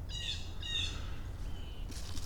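Several birds chirp and trill in quick overlapping phrases outdoors, with a steady low outdoor rumble underneath and no voices.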